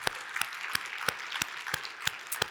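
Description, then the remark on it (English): A church audience applauds to thank a staff member, a steady, dense wash of clapping with a few sharper claps cutting through at a regular beat about three times a second. Moderately loud, no voices. “I want to ask her to stand just briefly so we can say thanks to her with a round of applause.”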